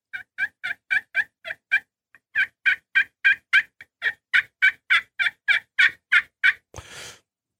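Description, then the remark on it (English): Wild turkey hens yelp in a fast, steady series of around twenty sharp notes in two runs, clear and fairly loud, ending with a brief scratchy burst; no one speaks. “Now, you know you're going to have problems if you hear other hens around there going.”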